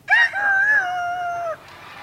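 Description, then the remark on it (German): An animal-voice imitator imitates a rooster's crow, one loud, sustained, wavering call lasting about a second and a half, delivered alone before trailing off into quiet. “Und Hähne auch, wie ihr hört.”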